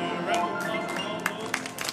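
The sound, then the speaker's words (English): A small group claps and cheers briefly after singing Happy Birthday, irregular hand claps popping over a murmur of voices. “Round of applause.”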